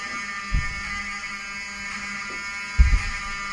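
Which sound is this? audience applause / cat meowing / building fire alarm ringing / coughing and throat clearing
building fire alarm ringing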